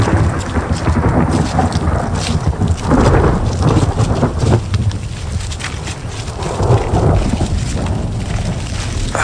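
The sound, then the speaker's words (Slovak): Deep, rolling thunder rumbles on and off at a distance from lightning striking the summit of Weathertop (Veterný vrch) hill, swelling and fading over a steady wash of rain, with no voices present. “Ako by po kopcoch skákal blesk. Ako ďaleko je veterný vrch? Tie blesky bijú do jeho vrcholu.”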